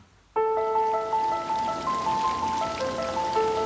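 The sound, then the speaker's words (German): A small fountain in the garden of a bungalow, half an hour southeast of Los Angeles, splashes steadily, starting abruptly and continuing without pause, with several sustained, bright melodic tones ringing above the water. “Im Garten eines Bungalows, eine halbe Stunde südöstlich von Los Angeles, plätschert ein kleiner Springbrunnen.”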